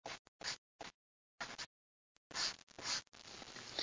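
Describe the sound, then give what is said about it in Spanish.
Scratchy writing on a surface as someone writes out an explanation of the three talents God gave: a few short, separate strokes with pauses, then a longer run of quick, continuous scribbling. No one talks. “Yo pienso que lo que le estoy escribiendo ahorita es la manera más fácil para entenderlo.”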